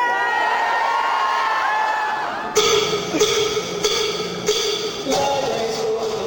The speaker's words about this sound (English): The one that I saw was in Washington, D.C., in this huge hangar-like space at the annual convention of the American Library Association. Librarians had packed the place and were screaming and cheering.